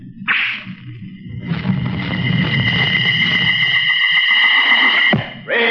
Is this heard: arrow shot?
yes